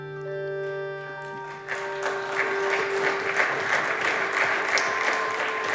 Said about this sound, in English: Mitt Romney earned himself a bipartisan round of applause on the Senate floor because he hit on the central dilemma and served up a high-minded illusion of a solution.